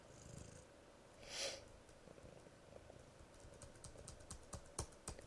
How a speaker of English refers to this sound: keyboard click.